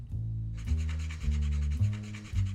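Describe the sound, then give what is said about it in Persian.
Nutmeg being grated in steady, rhythmic strokes, about five rasping scrapes in a row, each with a dry, gritty hiss over a low rubbing tone, about a quarter teaspoon of grated nutmeg being added to a dish while cooking for better flavour. No one speaks. “برای مزه بهتر جوز هندی رنده شده اضافه میکنه.”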